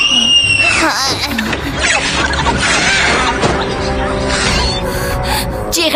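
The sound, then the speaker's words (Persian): A person screams loudly and shrilly for several seconds at a creature thought to be a chupacabra, the cries rising and falling in pitch, with other voices and clattering noise mixed in. “جیغ نزن اون بی آزاره.”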